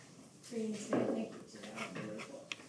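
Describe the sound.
A dog whimpers in short, thin whines near the start, with people talking through the rest of the moment.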